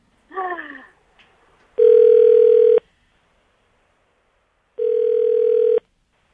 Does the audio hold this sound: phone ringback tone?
yes